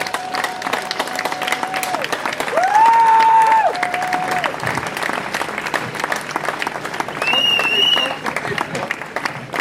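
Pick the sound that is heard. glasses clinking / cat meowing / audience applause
audience applause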